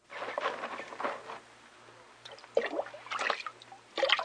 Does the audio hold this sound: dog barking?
no